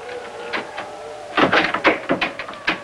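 A door handle is rattled and jiggled several times in quick succession, producing close, sharp metallic clunks after a couple of softer clicks, the latch never giving way.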